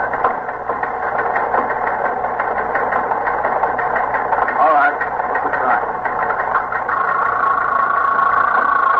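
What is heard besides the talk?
teletype machine printing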